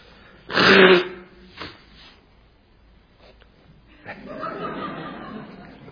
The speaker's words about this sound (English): Yeah, I'm sick. I cough.